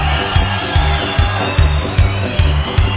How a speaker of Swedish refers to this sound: Mina damer och herrar, Anders Nisse Nilsson! En varm applåd!